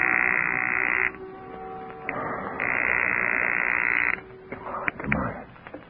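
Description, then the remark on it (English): A telephone being dialed in a phone booth just inside a men's lounge to place a call to the FBI: two long, buzzing line tones separated by a pause, then a few sharp handset clicks and clatter. No one speaks. “Long enough to put a phone call through to the FBI from a phone booth just inside the men's lounge.”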